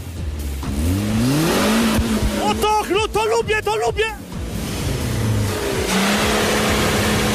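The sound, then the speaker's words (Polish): Two off-road vehicles' diesel engines, a Suzuki and a Nissan Patrol K160 3.3 turbo diesel, rev up through their exhausts with rising, growling sweeps, then a burst of quick throttle blips, while a man calls out excitedly over the loud roar. “a my zrobimy koncert na dwie rury wydechowe. I zobaczymy, który ma lepsze brzmienie.”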